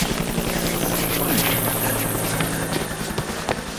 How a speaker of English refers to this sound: The choppers are moving this way.